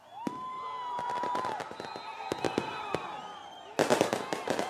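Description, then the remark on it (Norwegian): Fireworks bang repeatedly in Curitiba as people celebrate Luiz Inácio Lula da Silva arriving by helicopter to surrender to the federal police, a rapid irregular series of sharp cracks and pops, with a dense burst of crackling near the end over a faint crowd murmur and whistling. “Det var mange som feiret med fyrverkeri da Luiz Inácio Lula da Silva ankom i helikopter og overga seg til det federale politiet i Curitiba sist helg.”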